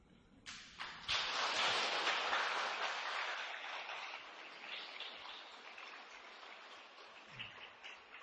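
A crowd bursts into applause, a dense wash of many hands clapping that starts abruptly, swells loud within a second, then slowly thins and fades over several seconds with no voices.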